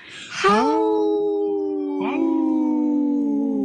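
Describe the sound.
A person imitates a wolf howl on Native Roots Radio: a long, loud wail that swoops up and holds steady, joined midway by a second overlapping howl, both sustained until the end.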